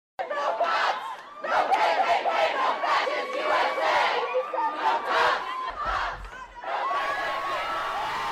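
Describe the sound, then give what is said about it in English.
A large crowd of protesters in Durham, North Carolina, shouts and cheers loudly and continuously as they topple a Confederate soldier's monument, voices overlapping in a rowdy roar, with a brief low thump partway through before the yelling surges again. “Because they're toppling the monument, destroying the monument, and then cheering like they've done something grand and glorious, and then kicking the statue because, Ma, I broke my toe fighting racism.”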